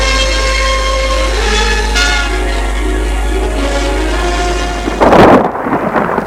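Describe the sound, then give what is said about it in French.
At night, a loud, rumbling thunderclap breaks in near the end of a thunderstorm with lightning, following several seconds of steady, ringing tones that hum underneath; no one speaks. “Elle est réveillée par l'orage.”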